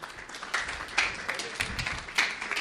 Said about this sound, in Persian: تشویق کنیم بشینه.